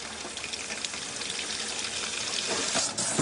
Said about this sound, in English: the image from Gasland of a homeowner lighting his tap water on fire